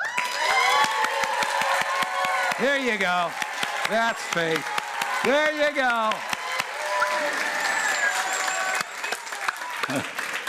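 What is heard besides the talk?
audience clapping and cheering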